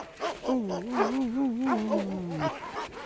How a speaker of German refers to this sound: Das hohe Bellen da. Hörst du das?